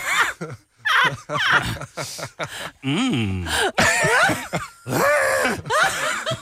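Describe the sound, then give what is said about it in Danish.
A person voices a series of deep, drawn-out groaning bellows imitating a rutting stag as a clue in a sound-guessing game, loud, with rough, strained calls repeating across several seconds. “En hjort i brunst.”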